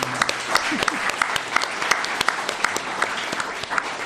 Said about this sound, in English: Thank you so much. And for our audience, let's give a big round of applause for our panel.